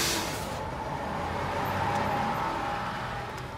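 A bus idles or pulls in at a bus stop, its engine giving a steady, loud rumble with a broad hiss of traffic noise throughout and no one speaking.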